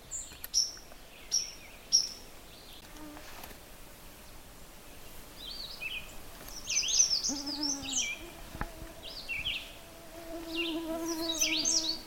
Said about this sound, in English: There's two birds singing. One is kind of a reliable song. It's a steady phrase and a pause. If you can pick that out. Like asking questions. I am fine. I am here. Where are you? Who is that?